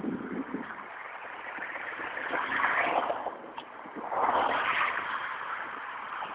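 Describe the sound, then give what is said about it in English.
Two cars pass by one after another on Route 202, one approaching from behind and one from the front, each rising into a broad whooshing roar and then fading, over a steady background rumble of traffic. “I'm walking on 202. The traffic noise.”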